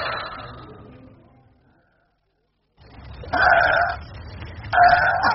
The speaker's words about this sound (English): They're hungry, you can tell. Oink, oink. Where's me dinner? Oh, they're good-natured beasts.